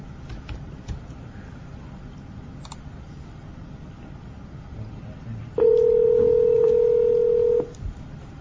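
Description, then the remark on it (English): Faint clicks and short beeps of a phone being dialed to call a meeting participant, followed by a loud, steady dial-type tone lasting about two seconds, with a low background hum throughout. “I do have her phone number here. Maybe I should just try to call her as well.”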